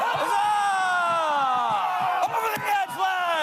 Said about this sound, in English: Protesting a British tax on tea to shouts of no taxation without representation.